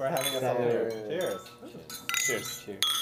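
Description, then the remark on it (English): Several glasses clink together in a toast, bright ringing taps scattered irregularly over a few seconds, amid overlapping voices of people talking and cheering. “Cheers. Cheers. Cheers. For having us all here.”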